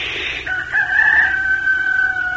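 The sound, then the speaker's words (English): A person mimics a rooster with one long, drawn-out crow, starting with a breathy rise and then holding a steady, loud call for about two seconds. “But just inside the window where the rooster slept in his bed, you would have heard him take a deep breath and crow like this.”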